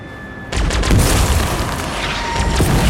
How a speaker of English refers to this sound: The vehicles leading the bus explode.